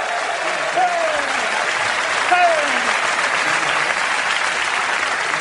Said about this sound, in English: He's laughing. I love he gets a big round of applause. It's so awesome. It's so beautiful.